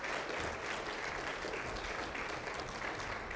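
An audience applauds steadily, a dense wash of many hands clapping at an even, sustained loudness throughout, with no voices rising above it.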